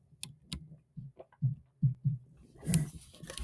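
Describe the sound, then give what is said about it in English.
A drink being sipped and swallowed: a run of soft, low gulping thumps at a steady rhythm, followed by a brief breathy exhale. There is no talking. “as I take a sip of drink”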